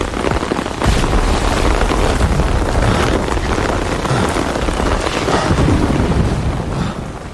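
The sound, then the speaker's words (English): Heavy rain pours steadily and loudly, a dense continuous roar of drops with low thunder rumbling underneath, no voices present throughout. “And we're back in the storm.”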